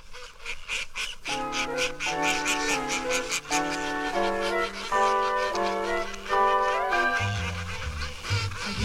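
A mallard duck quacks in a rapid series of loud, raspy honks, repeated steadily, with no talking over it.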